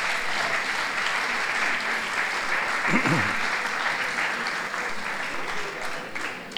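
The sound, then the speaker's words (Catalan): Steady audience applause at a lecture fills the whole stretch, a dense, even wash of clapping hands with a brief voice-like murmur rising in the middle. “Estan aplaudint a la mort.”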